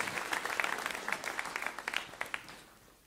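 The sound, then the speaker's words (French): An audience applauds a woman in the room who got the best mark on her thesis, with many overlapping hand claps in a dense, crackling burst that stays steady before tapering off near the end. “On peut l'applaudir, elle est dans la salle, je ne dirai pas qui c'est.”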